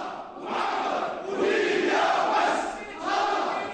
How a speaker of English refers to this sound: Snipers opened fire on crowds calling for dictator Muammar Gaddafi to step down. Some witnesses called it a massacre.